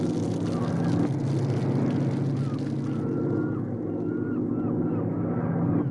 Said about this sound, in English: It's a search plane. I hope they see us.